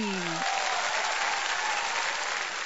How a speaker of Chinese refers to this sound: 掌声鼓励。